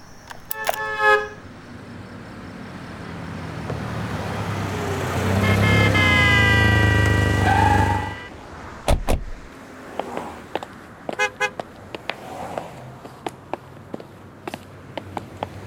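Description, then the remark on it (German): Heavy traffic on the A2 motorway near Leobersdorf at dawn, with a short horn toot near the start, then a vehicle engine roaring up loudly and passing by, followed by a thump and scattered clicks and taps. “Wir stiegen schnell ins Auto und fuhren raus auf die A2.”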